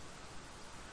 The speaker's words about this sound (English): As I was saying, it's such a complex sound. You can hear the gentle hiss of the thousands of the tiny droplets hitting the ground every second. That sound is obvious, but there's also the soft drumming of the rain on the roof, the subtle tap tap tap